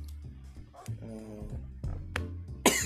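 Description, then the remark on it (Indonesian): A single sharp cough bursts out near the end, fairly loud, following a stretch of low voiced murmuring and hums. “Batuk dulu dong.”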